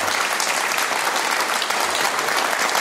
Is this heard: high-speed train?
no